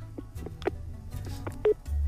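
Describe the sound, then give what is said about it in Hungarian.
A short run of telephone keypad tones from an incoming call, several brief beeps in an uneven rhythm, clear over a low background hum, with no one speaking. “Valaki bele akar szólni a beszélgetésbe. Ki akar? Az én lányom. Egy betelefonáló.”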